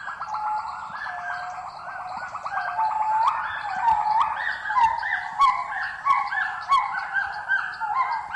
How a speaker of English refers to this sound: Gibbons, a kind of ape, call across the 2,400 hectares of protected forest. Their voices sometimes can be heard, joining with those of rare birds and other endangered animals.